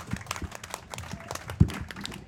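Scattered applause from a small group, a quick irregular patter of hand claps at modest volume, with one sharper, louder clap standing out near the end.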